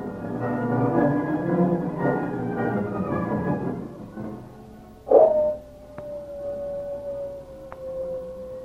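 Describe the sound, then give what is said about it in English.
A dog howls in long, drawn-out wails: first a wavering, layered howl, then after a short pause a sharp yelp rising into one steady, sustained howl that slowly trails off. “Forget that dog and work on that rope.”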